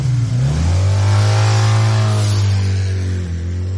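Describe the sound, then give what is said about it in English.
A motorbike engine revs loudly, its pitch climbing as it accelerates and then holding a steady, throaty drone for a few seconds, with no voices. “Bastard motorbikes.”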